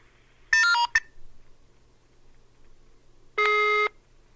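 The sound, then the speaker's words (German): Electronic telephone tones while calling a number given for the Klinikum der Universität Regensburg: a brief cluster of beeps with a quick blip, then a pause of over two seconds and one steady half-second tone. No one speaks. “Aber weiter unten ist noch eine weitere Telefonnummer und zwar die von dem Klinikum der Universität Regensburg, was auf mich natürlich einen ganz seriösen Eindruck gemacht hat und als ich die anrief, bekam ich Folgendes zu hören.”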